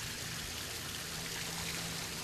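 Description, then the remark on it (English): Steady rushing of fountain jets splashing continuously around water sculptures, a dense, even hiss of flowing and falling water with a low hum underneath, no voices. “they are surrounded by these fountain jets that create a lot of motion and a lot of noise too”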